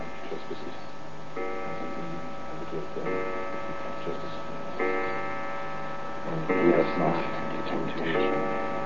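household object, clock striking twelve

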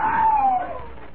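sound effect, man screaming

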